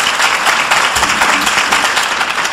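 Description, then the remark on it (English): A crowd applauds the candidates at the close of a forum, a dense wash of many hands clapping at once with no gaps, loud and sustained throughout with no voices over it. “I'd like to have everyone join me in giving a round of applause to our candidates for being here today.”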